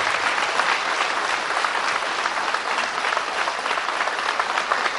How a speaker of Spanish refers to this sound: Antes de seguir, hay que darle un aplauso a esta gente. Son bellos, son bellos.